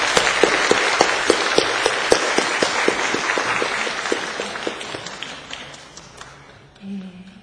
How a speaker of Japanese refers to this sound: まず皆さん拍手を持って歓迎しましょう。